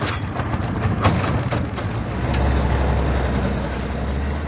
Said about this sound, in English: João Arroldo Vieira takes a small boat out of one of Manaus' busiest ports. He stops mid-river and cuts the engine.